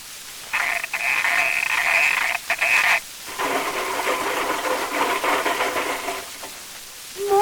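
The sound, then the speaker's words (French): A Ford car engine is cranked and starts: a rapid, buzzing whir, a brief stop, then it catches and keeps running with a steady, rattling drone. No one speaks. “C'est un Ford.”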